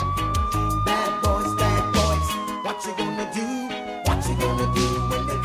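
A police siren wails steadily, sliding slowly downward and then sweeping back up, layered over loud, driving music with heavy rhythmic bass beats. No one speaks.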